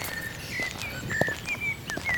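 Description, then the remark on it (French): Blackbird song: several short, fluty whistled phrases over a steady outdoor background with soft crunching footsteps and rustling as people walk along a path. “Ouais, c'est des merles, ça.”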